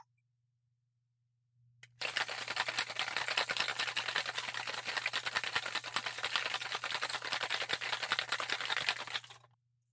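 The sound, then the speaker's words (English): A cocktail shaker full of ice rattles hard and fast for about seven seconds, a dense, bright, steady clatter that stops abruptly, with a faint low hum underneath throughout. “And for the happiest sound everybody likes, we're going to shake this up.”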